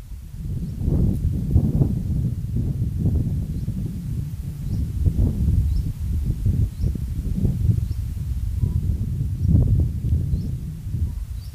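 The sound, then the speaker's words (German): Wind beginning to pick up, blustering in low, rumbling gusts that swell and ease over a steady rush, filling the whole stretch with no voices present. “Vielleicht kannst du den Wind hier hören, der beginnt aufzuziehen”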